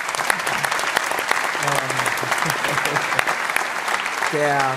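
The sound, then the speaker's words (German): A crowd claps steadily and densely throughout, fairly loud, with voices calling out and talking underneath the applause, applauding a press spokesperson who is sitting in the audience. “Applaus kennen wir alle von der PK.”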